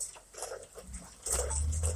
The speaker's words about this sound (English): I'm saying all this and it's raining, and that's a sign. The sound of that rain, that I want you to fully close your eyes, and I want you to understand your importance.